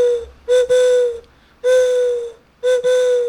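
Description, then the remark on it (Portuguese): A bird-call whistle imitating the call of a juriti dove, blown in three steady, breathy hoots: two quick ones close together, then a longer note, a pause, and another. Loud, with no talking. “O apito da Juriti é fácil, né? Que é só soprar.”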